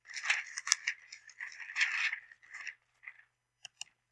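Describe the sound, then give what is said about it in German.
Crisp crackling and rustling of a crumpled, week-old newspaper being handled, a busy stretch of crinkles for nearly three seconds, then a few isolated sharp crackles after a pause. No voices. “Da ist die Zeitung. Unterlasse alles an Boden. Mamma mia. Papier, alle verkrugelt.”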